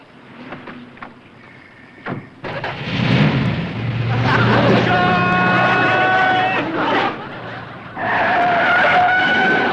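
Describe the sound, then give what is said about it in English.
A car engine starts and revs loudly, then the car pulls away with a rising roar and some tire skidding, after a quieter opening with faint voices. “Never mind, Schultz, just get in the car and start driving.”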